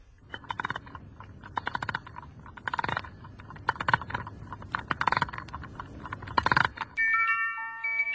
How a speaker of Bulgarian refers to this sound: Тук има и ключа, Ваше Величество. Сигурно трябва да се навие. Ето сега.